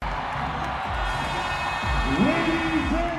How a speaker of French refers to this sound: Un coup de sifflet et les cris de joie des Égyptiens du club Al Ahly qui soulèvent pour la première fois cette coupe de la balle.